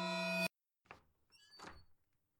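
A bedroom door slowly swings open: a soft thunk of the latch, then a drawn-out creaking squeak of hinges, fairly quiet, following a short loud tone that cuts off abruptly.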